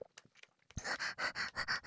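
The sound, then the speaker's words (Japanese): A man pants heavily and rapidly: about five loud, breathy huffs in a steady quick rhythm, starting abruptly after a brief near-silent moment. No one speaks. “お兄さんも息はぁはぁはぁはぁしちゃって、私心配です。”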